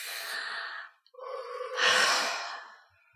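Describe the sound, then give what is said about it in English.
Several people draw a long, audible breath in together, then let it out in a louder, breathy exhale, with no talking. “I think we all need to take a deep breath together.”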